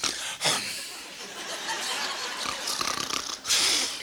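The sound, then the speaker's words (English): Raspy, hissing snoring from a turtle asleep while basking in the sun on a beach after coming out of the water: a continuous airy rattle with sharper, louder breaths near the start and end, with no talking. “This turtle comes out of the water. He's just sitting there. He's in the sunshine. And he falls asleep.”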